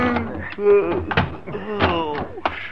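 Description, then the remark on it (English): A bedroom door in a ranch house opens with a few dull wooden thunks and knocks, spread over a couple of seconds, while a man inside angrily throws his things into a suitcase and a man's voice murmurs and grumbles underneath. “He's angrily throwing his things into a suitcase when you open the door.”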